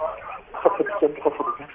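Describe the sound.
Muffled, tinny voices from a television murmur in the background over a caller's phone line from Sudan, with narrow telephone-quality sound and a steady low hiss throughout.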